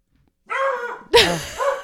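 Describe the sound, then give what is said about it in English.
Dogs bark loudly in a quick burst as a package is being delivered, two or three sharp, harmonic barks with a higher yelp mixed in, no talking over them. “They're delivering a package and our dogs are about to go ape.”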